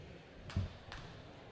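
A basketball thuds on a hard gym floor during a game as the ball is knocked loose, one solid bounce followed by a lighter second hit, heard faintly against a quiet indoor background.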